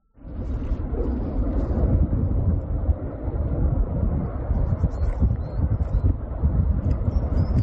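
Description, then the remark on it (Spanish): A forest fire in La Mierla roars steadily, a deep, dense rumble filling the whole clip, with scattered sharp crackles and pops breaking through the continuous blaze. “Es el sonido que queremos evitar. Ese crepitar de un incendio forestal, además de rápida propagación por la acción conjunta del viento y de las altas temperaturas.”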